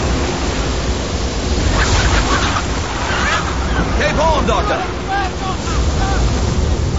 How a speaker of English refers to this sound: Through the lashing rain, Stephen glimpses the blurred landmass of Cape Horn before a wave washes him backwards off his feet.